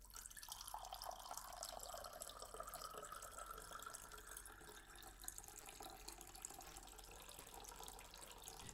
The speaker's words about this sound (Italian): In tema viene versata dell'acqua proprio bellissimo con la colazione, insomma, bello, bello, bello, bello.